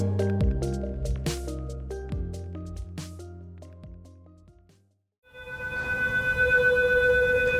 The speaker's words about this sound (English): High water sirens in Venice, Italy, where historic flooding has caused hundreds of millions of dollars in damage and at least two deaths.